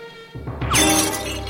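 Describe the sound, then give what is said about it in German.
A carelessly discarded glass bottle smashes on hard ground at a beach with a sharp, bright crash, followed by a brief scatter of tinkling shards. Loud, heard alone without any voices. “Eine Flasche, achtlos weggeworfen, zerschellt am Boden.”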